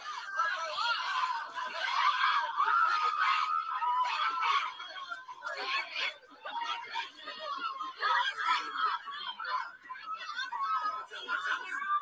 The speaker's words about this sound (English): And so it's really just a whole lot of screaming. But we'll you know, we're gonna you guys can see it's a group, literally a lady is standing at her doorway, getting ready to go inside.